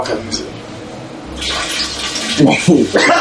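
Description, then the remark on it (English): Liquid splashes and gushes into a toilet bowl in a steady rush that begins partway through: the water of a Fleet enema being expelled, while people talk over the watery noise. “So that's just the water, the Fleet enema coming out.”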